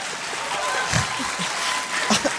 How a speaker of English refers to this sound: A round of applause for that sentiment.